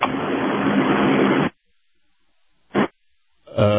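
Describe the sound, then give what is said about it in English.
Steady, loud road rumble from a car being driven on the road, heard over a phone line: a dense hiss and low drone that cuts out abruptly, followed by a brief burst and then a return of the noise. “And good morning, and it sounds like you're driving in a car.”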